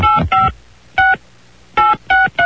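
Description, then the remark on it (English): Six loud, clean keypad beeps from a phone being dialed: two quick tones, a pause, a single tone, then three more in fairly quick succession, with no voices. “We're going to keep trying, though, because the only way it's really fun is if he picks up the phone.”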